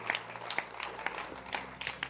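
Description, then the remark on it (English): A crowd applauds with a dense, steady patter of many hands clapping at once, continuous for a couple of seconds, with no clear voices on top. “I'm happy that at least the hand clap.”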